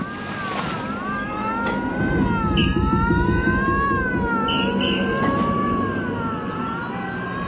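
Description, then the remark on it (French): A ship's siren wails continuously as a sinking ship is evacuated, its tone gently rising and falling over a deep, rumbling background, with a few brief higher chirps cutting through; no one speaks. “Il a fallu l'envoi des premières fusées et le sifflement des sirènes pour que les gens commencent à comprendre.”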